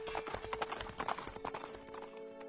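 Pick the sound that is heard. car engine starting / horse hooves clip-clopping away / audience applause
horse hooves clip-clopping away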